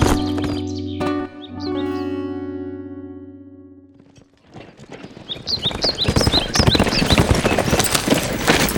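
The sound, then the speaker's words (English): A big black horse named Star breaks into a fast gallop with a rider, rapid hoofbeats pounding loud, with birds chirping overhead; a low sustained tonal hum fades out just before the hooves start. “Smoke gave the big black his head. Yeah! Star took off like the wind.”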